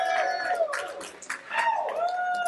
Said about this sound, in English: We are recording live as always, but today we have a live studio audience at PHP Tech 2016. Say hi, everybody. Applause!